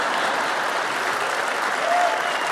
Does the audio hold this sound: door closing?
no